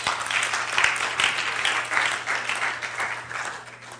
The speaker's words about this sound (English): Oh, right, you're going to clap.